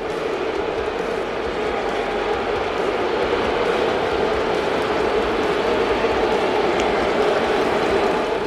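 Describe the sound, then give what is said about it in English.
A stadium crowd of Yankees fans at Yankee Stadium in the Bronx boos in a sustained, steady roar for about eight seconds during an Astros–Yankees game, thousands of voices blending into one loud, droning wash of jeers aimed at Jose Altuve and the Astros, with no let-up. “You ever wondered, what does a Bronx cheer sound like? It's this.”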